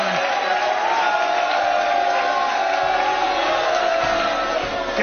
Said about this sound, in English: Mr. Trump, we're not going to eject anyone from the audience just for booing you.